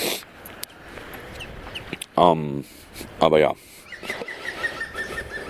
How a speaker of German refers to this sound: Was ist das denn für ein Vogel?